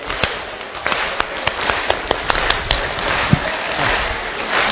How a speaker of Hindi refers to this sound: सभी ताली बजे।